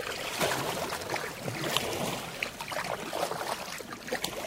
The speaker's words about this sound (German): Wir fahren mit einem Kajak aufs Meer, auf eine kleine Insel vor der Bucht. Ich will mich dabei auspowern, sie aber nur gemütlich paddeln.